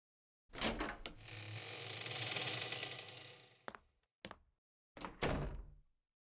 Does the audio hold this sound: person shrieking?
no